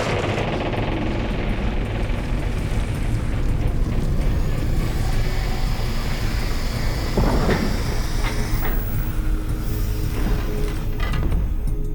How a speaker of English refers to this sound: Henry instinctively moved backwards when he heard the ear-piercing shriek of ancient gears turning for the first time in millennia. The slabs were opening.